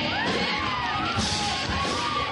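crowd, crowd cheering

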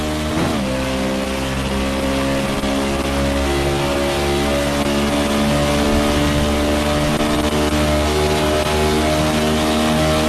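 vehicle, race car engine accelerating

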